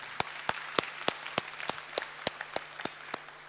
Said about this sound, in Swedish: Först, en stor applåd för er. Ni är verkligen superduktiga.